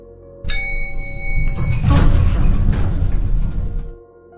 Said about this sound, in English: Now arriving on the 2nd floor. The doors opened.